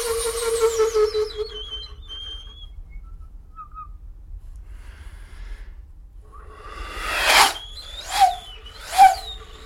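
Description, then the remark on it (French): A whistle made from a straight, unperforated pipe with a stopper and a recorder-type mouthpiece, played only by breath pressure, sounds a long wavering tone that fades out, then after a pause gives three short, airy, breathy blasts, with no talking. “Voilà, donc c'est juste un bout de tuyau droit, non percé, avec au bout un bouchon et donc un sifflet type flûte à bec.”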